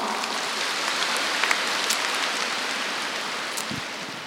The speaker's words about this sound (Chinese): 鼓掌。